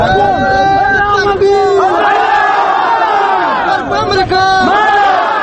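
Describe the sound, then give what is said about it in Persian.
A loud crowd of protesters chants slogans in unison, many voices rising and falling together in a steady, insistent rhythm that carries on without a break. “تظاهرکنندگان با این شعارها به تظاهراتشان ادامه دادند.”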